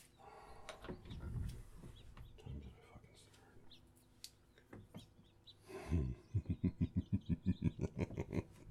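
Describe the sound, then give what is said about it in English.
A bird calls in a quick, steady run of about a dozen short, clear chirps near the end, after a stretch of rustling, indistinct noise. “The bird's a nice touch.”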